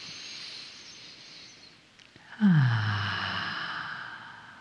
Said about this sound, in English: Gently close your eyes and allow for that moment of rest to come into your being. Just take a breath. Let's do that again.